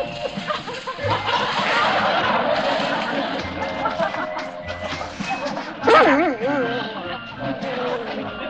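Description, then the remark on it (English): A puppy yaps and whimpers inside a hospital amid a busy, cluttered background, with a louder, wavering whine standing out near the end and voices murmuring underneath. “Come on, puppy.”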